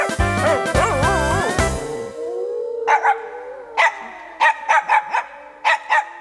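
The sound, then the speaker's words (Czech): After a brief wavering, tonal opening, dogs bark in a run of short, sharp bursts, some single and some in quick clusters, loud against a quiet background. “My jsme psi z Nové vsi.”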